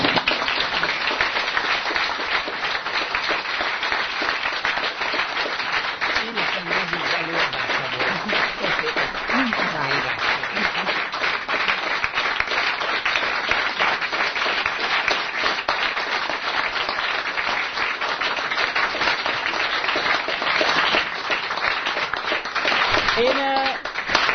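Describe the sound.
Sustained audience applause at the end of a six-session lecture series lasts over twenty seconds, a dense, steady roar of many hands clapping at once, with faint voices murmuring beneath it.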